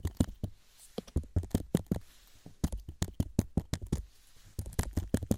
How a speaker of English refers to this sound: Little pencil here. Tap all around.